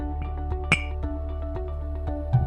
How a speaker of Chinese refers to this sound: 我一样邀请现场的来宾以及我们听众朋友们，将你的酒杯举起来。那一样，我们数到三的时候呢，就干杯来开启今天的话题哦。一、二、三，干杯。